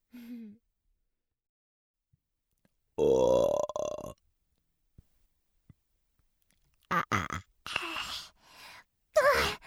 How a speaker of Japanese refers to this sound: おいしかったにゃん。ゲップ出ちゃいそう。